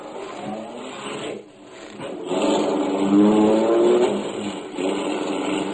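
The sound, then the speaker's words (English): A car starts and shoots out of a side street onto a quiet, snow-covered street on a cold, crisp January evening, its engine revving and pitch climbing steadily as it accelerates and whizzes past, loud and continuous for several seconds with no voices. “The car shot out of a side street only moments after I heard it start. It whizzed past me as I reached the corner and disappeared around a corner.”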